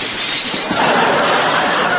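door slamming

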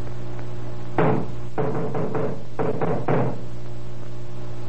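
knocking on a door

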